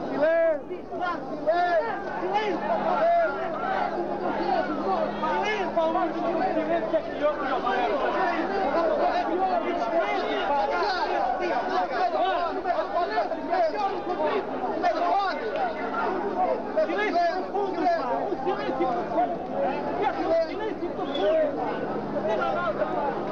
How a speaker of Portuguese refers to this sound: Uma vaia tremenda da multidão. Entretanto, as autoridades tentam acalmar o povo que numa vaia tremenda.